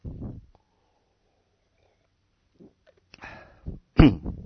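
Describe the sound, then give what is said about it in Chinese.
A man coughs in a few harsh, breathy bursts spread over several seconds, with quiet gaps between them; the last cough is the loudest and sharpest. No one speaks. “最近这个咳嗽很多哈，所以每一次我很激动的时候我就咳嗽了，所以我还是不要太激动哈。”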